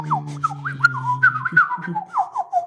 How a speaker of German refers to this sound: Das ist eine Biene, die jetzt durchs geöffnete Fenster reinfliegt. Weil es ist ein schöner Sommertag.